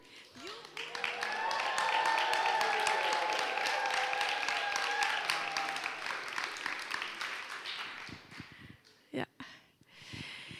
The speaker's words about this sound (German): Das ist ein Grund zu jubeln. Deswegen können wir jetzt ein Jubel loslassen. Wer ist bereit für einen Jubel?